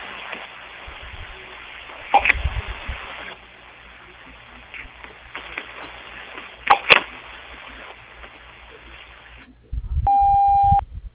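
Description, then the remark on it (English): Faint telephone-line hiss with a couple of sharp clicks, then a single steady answering machine beep from the answering machine of J. Roush Excavating, lasting about a second near the end, loud and clear. No one speaks. “After the beep, please leave us a message.”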